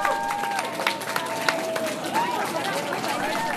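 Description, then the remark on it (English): A crowd of demonstrators and college officials at Logan Airport cheers and claps steadily, welcoming back college students on a flight from Germany, with scattered shouts and whoops rising above a dense wash of voices throughout. “That sounds of cheering at Logan, where demonstrators and college officials gathered to welcome back some college students on a flight that landed just this afternoon from Germany.”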